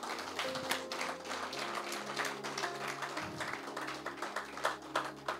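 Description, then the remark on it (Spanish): An audience bursts into sustained applause, dense overlapping claps filling the whole stretch with steady crackling energy, while low sustained organ or keyboard tones hum underneath. “Y si tienes aplauso guardado y lo quiere dar, délo ahora.”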